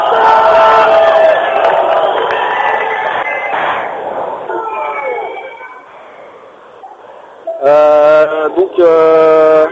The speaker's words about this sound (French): C'est pas très compréhensible avec tout le son qu'il y a là. Il y a beaucoup de feux d'artifice. C'est une expérience assez étonnante.